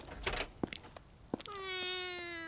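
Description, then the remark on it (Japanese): A single drawn-out, clear cat meow coming from someone's room, following a few soft knocks and rustles, with no one speaking. “鷹野さんの部屋から、なんで猫が？”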